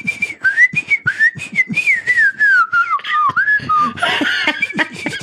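A person whistles a wavering, wandering tune for several seconds, the pitch sliding up and down, with breathy noise and a bit of laughter breaking in toward the end.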